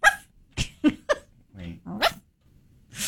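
small dog yapping

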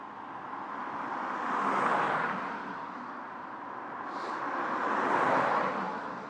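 bus passing by

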